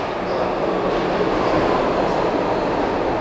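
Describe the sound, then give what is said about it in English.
A PATCO commuter train rumbles steadily at the PATCO station at 8th and Market, a dense, continuous roar of rail noise that stays loud and even throughout, with no voices standing out. “We retraced his long journey, starting at the Patco train station at 8th and Market.”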